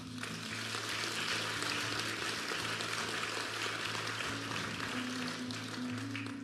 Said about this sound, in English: And that was a mistake on one level for you to clap, because, well, that's appropriate.